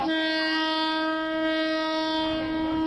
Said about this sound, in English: In a neighborhood north of Bangkok, a passenger train is about to roll right through a densely crowded street market.